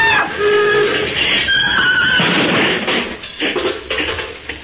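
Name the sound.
car crash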